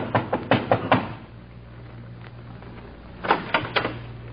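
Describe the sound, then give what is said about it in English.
Two bursts of knocking on the door of a mother's home in a town, about five quick raps, a pause of a couple of seconds, then four more, over a low steady hum. “Until I passed through his town again and I knocked on his mother's door.”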